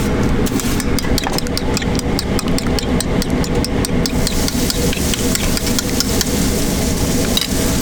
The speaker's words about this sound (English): Back in the Waffle House where Avondale Estates people still eat, Gabrielle Garrett is cooking some hash browns on the flat top grill.